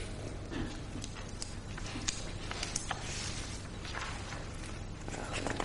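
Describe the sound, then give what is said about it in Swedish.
Heavy running footsteps of a person running fairly fast past the crossing with Luntmakargatan thud at a steady quick pace against a dense, noisy background, each impact landing with a dull, weighty thump. “Ja, han springer, den här personen springer ganska tungt. För fotstegen hörs ganska mycket.”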